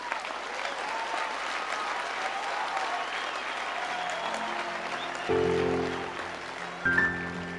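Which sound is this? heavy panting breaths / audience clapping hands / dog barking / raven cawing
audience clapping hands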